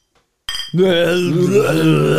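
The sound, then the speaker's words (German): Glass bottles of Flensburger Küsten-Cola clink together once in a toast, with a short bright ring, then a low, steady vocal hum carries on underneath. “Prost, komm. Ja, Prost. Muss klirren.”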